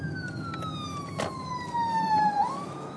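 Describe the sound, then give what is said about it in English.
An ambulance siren wails over a steady rumble of queuing road traffic in Byfleet, its tone sliding slowly downward and then lifting again as it passes a car that pulls over to let it go by. “I'm just queuing a lot of traffic, and just seen behind us there's an ambulance.”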